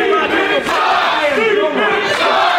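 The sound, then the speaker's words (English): A large crowd at a match yells a call-and-response chant, one group shouting a name and another answering that he sucks, loud and sustained, voices rising and falling in unison with rough, overlapping shouts throughout. “Call and response chant. Group of people yelling,”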